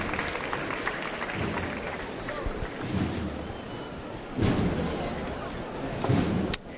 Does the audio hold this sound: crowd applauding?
yes